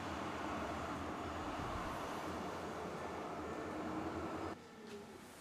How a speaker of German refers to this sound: Unser Weg führt uns jetzt weiter zur S-Bahn, die Richtung Stadelhofen fährt.